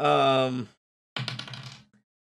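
A sustained vocal tone, a brief pause, then a quick burst of small clattering clicks as special dice tumble across a table during a game of Dungeons and Dragons, with a voice droning faintly underneath.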